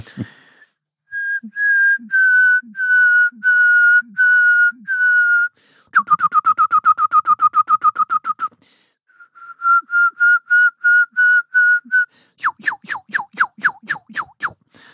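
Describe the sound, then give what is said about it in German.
A person whistles an imitation of the song of a songbird whose single males have up to 240 song types, in distinct phrases: slow runs of steady repeated notes, a fast rattling trill, then quick upward-sweeping whistles. No talking. “Ja, also ich kann ihn zum Singen bringen.”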